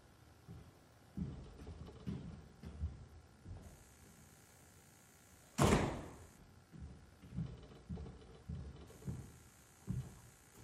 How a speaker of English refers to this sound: Oops, there the door blew open. Sorry, I'll be right back.